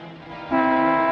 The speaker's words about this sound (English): What are you honking the horn for?